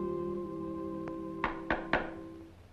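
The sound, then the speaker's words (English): Three firm knocks on a door in quick, even succession, preceded by one faint tap, over a steady low tonal hum in the background. “He answers the door.”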